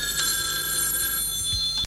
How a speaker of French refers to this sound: Matin, la sonnerie du téléphone retentit dans sa chambre.